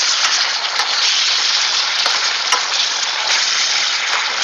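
Steady, loud sizzle of meat browning in a pan, a dense crackling hiss dotted with sharp little pops, continuing unchanged throughout with no voices.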